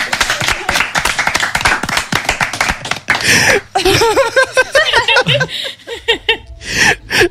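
An audience claps in quick, steady bursts for about three seconds, then cheering, whooping and laughter take over, with rising excited voices and a final swell of clapping.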